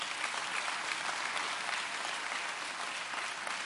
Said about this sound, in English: Let's give the visitors a hand clap.